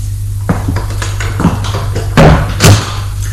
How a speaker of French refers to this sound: Et elle ouvre une porte, les fait entrer.